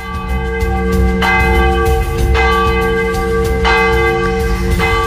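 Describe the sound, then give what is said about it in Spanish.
Church bells ring loudly, with rich sustained tones and fresh strikes roughly every second or so, the overlapping peals blending into a continuous resonant wash with no talking. “Con el sonido de las campanas terminamos esta edición del Directo Mañana aquí en la antena de Radio Sintonía.”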